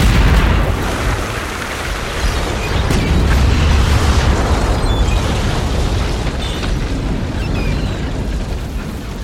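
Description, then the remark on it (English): A rigged explosion at the Citadel erupts loudly into a sustained, deep rumbling roar with crackling debris, holding steady for several seconds without fading. No voices are heard. “I rigged the explosion and, hand in hand with the lissom Dr.”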